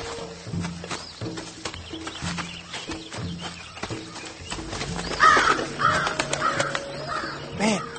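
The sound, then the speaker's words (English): Harsh, raspy bird cries call out several times, growing louder and more insistent toward the end, over a steady low rhythmic background with no one speaking. “Ramirez says it was a seagull.”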